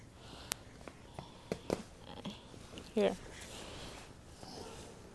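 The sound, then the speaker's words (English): A baby gives a single short, high sneeze about midway through, preceded by a few soft squeaks and clicks over a quiet background hiss. “Ooh, bless you.”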